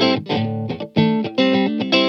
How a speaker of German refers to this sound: Yeah, und als nächstes kommt der Spark Mini von TC Electronics. Ganz schön von drunter gedreht von der Verzerrung her, aber das ist letztendlich auch nur ein Booster.